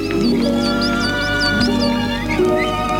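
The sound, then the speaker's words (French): Faint whimpering and small squeaky cries, high-pitched and repeated in quick bursts, sounding over a steady low drone with no one talking. “J'entends comme des gémissements, des petits cris. On les entend à peine, si on n'y fait pas attention.”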